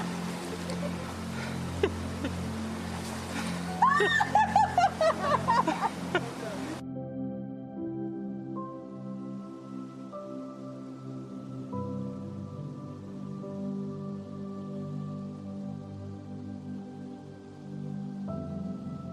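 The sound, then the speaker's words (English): A waterfall inside a cave splashes with a loud, steady rush for the first several seconds, briefly under faint voices, then cuts off abruptly, leaving only a low, steady droning hum. “This is a cave with a waterfall, yeah?”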